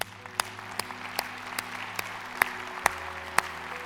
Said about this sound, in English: We want you to know that Discover Church loves you. We respect you. We respect what you do. And we applaud you today. Let's do that right now.